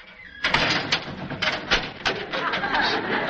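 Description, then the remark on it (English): A heavy metal cell door slides and rattles shut, with a series of loud clanks and scraping over about three seconds after a brief quiet start. The sound is made by closing a specially built door constructed exactly like a jail cell door. “And that sound was done by closing a specially built door constructed exactly like a cell door.”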